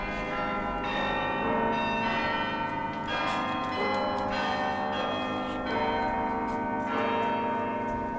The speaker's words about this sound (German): Wollen wir noch ein bisschen die Glocken läuten lassen? Für den Mittag. Ist auch Mittag jetzt, ne?